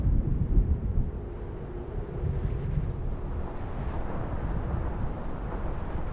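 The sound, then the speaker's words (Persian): A summer storm in very hot weather: wind roars steadily and loudly, with a deep, continuous low rumble of thunder underneath and no voices, sustained for several seconds. “با گرمای تابستون، طوفان تابستون هم میاد.”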